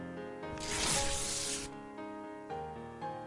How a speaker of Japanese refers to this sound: ねえ、こっちは？大きい封筒も開けていいの？